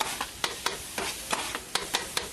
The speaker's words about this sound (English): So we hear some of the sounds around his neighborhood as there's a street vendor grilling chicken.